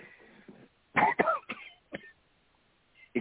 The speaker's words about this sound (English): Excuse my coughing, lady and gentlemen. I'm trying to get over something that I just recently had.